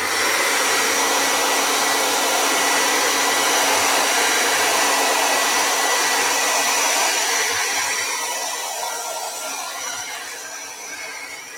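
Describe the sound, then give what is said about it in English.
A hair dryer blows in a steady, loud whoosh with a constant motor hum, drying watercolor paper before a glaze is painted, running for several seconds before easing off slightly toward the end, with no talking. “I mean, I could not do watercolor without my blow dryer.”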